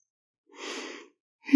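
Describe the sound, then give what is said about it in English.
A single breathy, drawn-out yawn, moderately loud, about half a second long, followed by a brief sharp sound at the very end. “Oh, I can't seem to stop yawning.”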